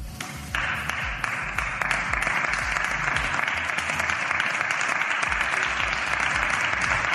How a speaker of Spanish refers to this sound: Ha sido una ovación sentida, ha sido una ovación especial. Es verdad que parece que no había mucha gente. Bueno, es que no había mucha gente, porque esto ha pasado esta mañana en el Congreso de los Diputados